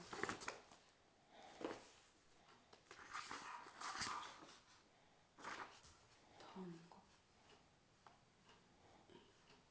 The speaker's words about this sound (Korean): 걔가 왜 저렇게 짖나?